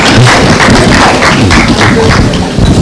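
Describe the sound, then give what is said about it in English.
A crowd claps and stomps together, a dense, loud burst of overlapping hand claps mixed with low thuds of feet pounding the floor, sustained throughout without any speech. “So let's give them some foot thumping or hand claps or something like that.”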